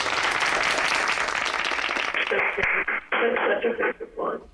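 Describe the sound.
A burst of people clapping, a dense, loud patter of many hands for about two seconds, then fading into voices talking with a few scattered claps.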